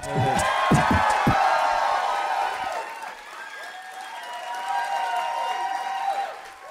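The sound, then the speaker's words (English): A live audience claps and cheers loudly, with scattered whoops and shouts rising above the applause; the noise dips slightly midway, then swells again before trailing off. “Somewhere through a pool of horse's blood, Usador can hear your applause and he appreciates it.”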